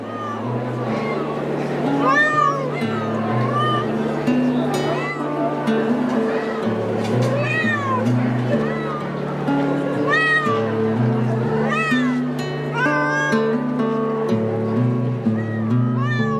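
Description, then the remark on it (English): Many exotic cats meow over and over at a cat show in a gymnasium, their overlapping cries rising and falling, over a steady low hum and a busy murmur of background voices. “gathered together along with scores of other cat fanciers to show their exotic cats on the weekend of January 10th”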